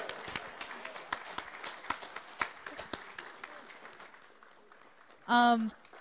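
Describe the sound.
An audience applauds with scattered, uneven claps at a moderate level for several seconds. A short, loud voiced cheer bursts out near the end.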